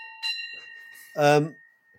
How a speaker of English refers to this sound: I've got to ring the bell with the golf clubs. Like, I work the way you ring them without getting up.